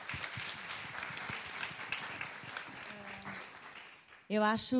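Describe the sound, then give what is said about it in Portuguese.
An audience claps steadily for about four seconds, a dense wash of many hands that gradually thins, and then a voice starts speaking loudly as the applause fades out. “Salve de palmas.”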